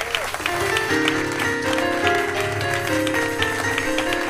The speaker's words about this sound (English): And keep the hand claps going for yourself and these wonderful musicians right here.